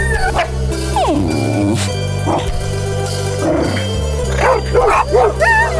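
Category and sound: animal, puppy barking and yipping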